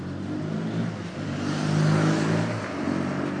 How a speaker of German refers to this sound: Krass, was hier für Verkehr unterwegs ist.